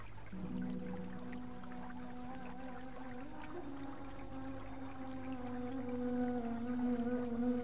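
flowing water

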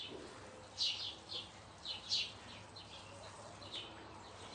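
pigeons cooing

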